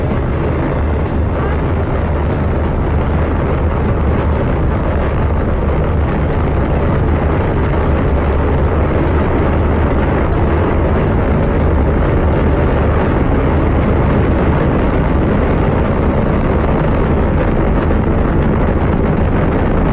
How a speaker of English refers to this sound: T-minus 10, 9, 8, 7, 6, 5, 4. We've gone for main engine start.